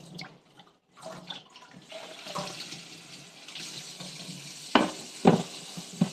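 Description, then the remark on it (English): Water runs steadily from a tap into a sink, a continuous hiss, with a couple of sharp dish clinks near the end as a person in light pink dishwashing gloves scrubs dishes with a fish-shaped sponge. “I have a sponge that's shaped like a fish as I scrub away at my dishes.”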